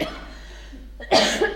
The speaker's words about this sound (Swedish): Jag måste bara hosta.